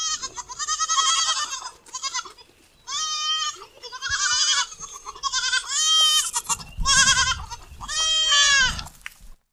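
goats bleating

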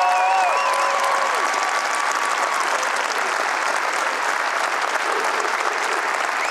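audience applause

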